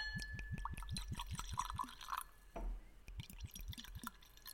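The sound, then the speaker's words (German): A dark golden drink glugs quickly out of a bottle into a glass in a rapid series of rhythmic gurgles, broken by a brief splash midway before the pouring resumes; some of the drink is spilled onto an armchair during the pouring. “Du hast einmal schön deinen Sessel voll gesaut beim Eingießen.”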